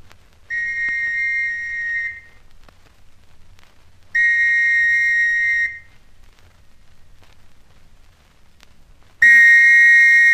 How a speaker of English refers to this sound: Well, here goes. Police whistle again, I think. Hope they won't notice that I'm only one.